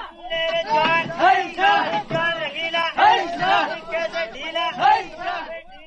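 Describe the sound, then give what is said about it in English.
A group of workmen shout and call out together in loud, rhythmic bursts as they heave a heavy cement mixer onto a truck, their voices overlapping in strained, chant-like cries. “A few steps farther, we stop to listen to some workmen loading a heavy cement mixer onto a truck.”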